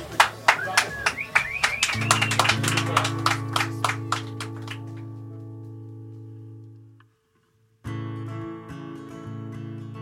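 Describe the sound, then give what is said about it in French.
Audience clapping for a live trio session crackles over a sustained musical chord for several seconds, then thins out as the held notes fade to a brief silence before music starts again. “Merci à vous, on peut les applaudir.”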